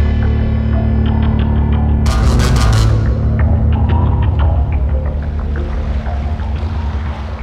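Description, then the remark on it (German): A boat engine drones with a steady low throbbing hum, a brief splashing burst of water early on, then the motor slowly grows fainter as the boat pulls away, steered by a girl out onto the open sea. No one speaks. “Das Mädchen lenkt das Boot auf die offene See.”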